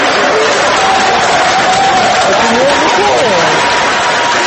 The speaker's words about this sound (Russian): члены избирательного штаба и сторонники партии «Гражданская платформа» приветствовали своего лидера Дональда Туска громкими овациями